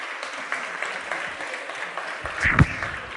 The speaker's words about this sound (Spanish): Vaya, un aplauso para ellos que les van a llevar con mucho fruto.